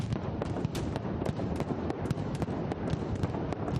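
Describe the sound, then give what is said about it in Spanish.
A relentless mascletà barrage of firecrackers set off by a pyrotechnician explodes continuously, dense overlapping bangs and sharp cracks forming a loud, rumbling wall of sound with no pauses and no voices. “Señor pirotecni, ¿pot comenzar la mascletà?”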